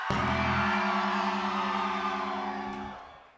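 audience screaming

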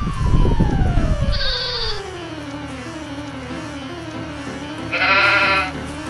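sheep bleating

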